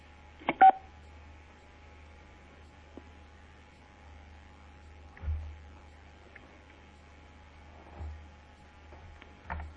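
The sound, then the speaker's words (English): A single short telephone keypad tone beeps once near the start, fairly loud, as a caller presses 6 to mute their phone on a conference call, followed by a low steady line hum with a few soft muffled bumps and no talking. “For anyone who hasn't been on these calls before, to mute your phone, you can just press 6. And to unmute it, you also press 6.”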